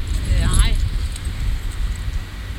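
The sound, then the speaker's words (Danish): A bunch of about 20 keys jangles briefly near the start, a short metallic rattle over a steady low rumble like wind or a vehicle outdoors. “Jeg har 20 nøgler med nede.”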